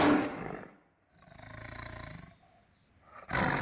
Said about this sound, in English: The tiger's roar is rapidly disappearing in nature. In 2010, 3,200 tigers were estimated to still roam India and 12 other Asian nations.